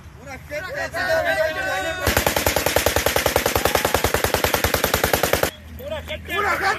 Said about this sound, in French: Alors ce sont des coups de feu hein, qu'on entend dans cette vidéo. Voilà, des coups de feu qu'on entend sur une vidéo. C'est une vidéo qui a circulé sur les réseaux sociaux en juillet dernier.